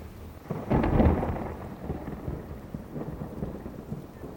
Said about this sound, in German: Der Regen setzt ein.